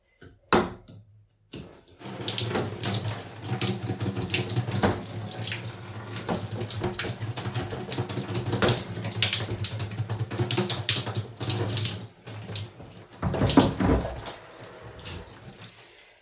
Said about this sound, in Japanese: とりあえずちゃんとおしっこちょっとお風呂場に流しますね。で、ボールも後で洗うんで、ちょっとシャワーいいですか、シャワーだけちょっと。